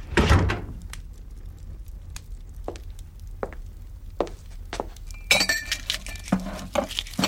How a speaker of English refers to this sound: She shuts the door behind her.